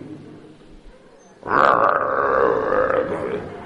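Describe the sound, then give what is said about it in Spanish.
After a moment of near quiet, a voice lets out a long, loud, rasping grunt, a throaty imitation of young people who no longer know how to talk, holding steady for about two seconds without any words. “Han pasado al nivel prehumano del gruñido.”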